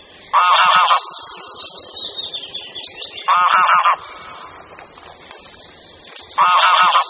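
Greylag goose calls: three loud, harsh honks spaced about three seconds apart, with quieter gabbling and chatter from the birds continuing in between.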